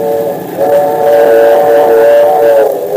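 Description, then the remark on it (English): A train's steam whistle blows loud and steady for several seconds, a sustained multi-toned wail over a rumbling background, with no voices. “As long as we're not on a freight train, we've got nothing to worry about.”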